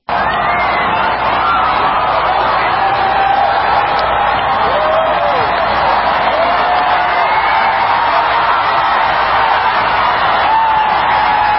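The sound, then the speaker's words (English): A massive crowd at a total solar eclipse watch party at the Indianapolis Motor Speedway cheers as the eclipse begins, a dense continuous roar of many voices with scattered whoops and rising shouts riding on top, steady and loud throughout with no pause. “A massive crowd gathered at a watch party in the Indianapolis Motor Speedway. They cheer as the eclipse begins.”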